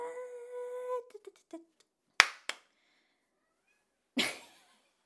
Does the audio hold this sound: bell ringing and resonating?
no